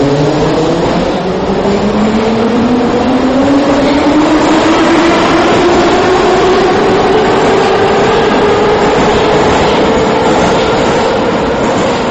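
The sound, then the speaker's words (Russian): A Moscow metro train accelerating, its electric motor whine rising steadily in pitch over a constant loud rumble of wheels on track, continuous throughout with no voices. “Московского метро.”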